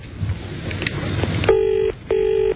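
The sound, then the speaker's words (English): Two steady electronic ringback tones sound through a phone line, each lasting under half a second with a brief gap between, after a moment of low background hiss. “So what do we need? Like some soft music while we wait until they're good and damn ready to pick the phone up?”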